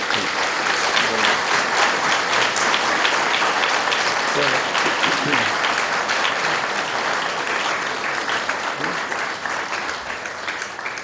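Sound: audience clapping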